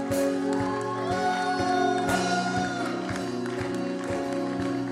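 An audience, standing to welcome a bishop, claps in a steady, even rhythm, roughly two claps per second, over loud sustained music with held chords and a bright melodic line.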